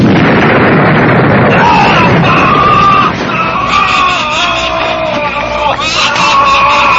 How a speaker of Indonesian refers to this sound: Aduh, siluman ular itu menjemburkan api dari mulutnya. Iya, ilmu asap dingin bayu geni dan jari singgih tidak mempan melawan semburan api itu.